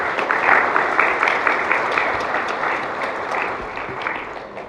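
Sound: audience applauding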